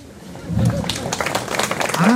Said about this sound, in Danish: Sparsom applaus.